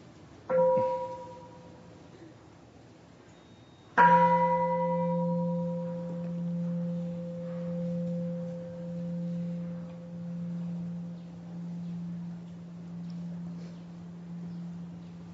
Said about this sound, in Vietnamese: Xin mời quý vị nghe chuông và theo dõi hơi thở.